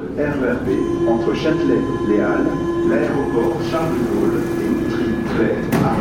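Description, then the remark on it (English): A steady, loud rumble of a Paris metro train in motion, heard from inside the car, with a sustained motor whine and faint murmuring voices mixed into the noise. “Masks were mandatory on public transport like the metro.”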